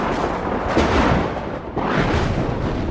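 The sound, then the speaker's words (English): Loud, rolling thunder of a big storm with lightning rumbles throughout, with two sharper cracks about a second apart breaking through a deep, continuous roar. No voices are heard. “Soon there was terrible lightning and thunder.”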